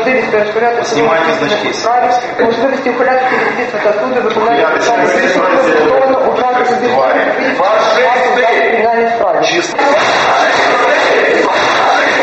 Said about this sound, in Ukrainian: Коли з тексту стало зрозуміло, що апеляцію відхилено, народні депутати, що були в залі суду, стали скандувати «фашисти».